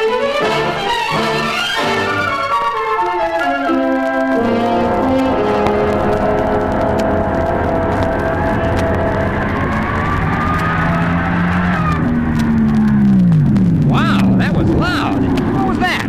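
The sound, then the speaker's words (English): Loud drag racing gasser cars rev their engines in a continuous roar, pitch climbing and dropping in waves, with sharp bursts of high revving near the end. “Think those gases are loud? Now, wait till you see them run the real funny cars.”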